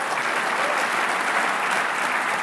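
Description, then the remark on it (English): An audience clapping their hands to honor the Lord during a sermon, in steady, sustained applause, a dense wash of many overlapping claps at a constant moderate loudness with no voices standing out. “Clap your hands and honor the Lord.”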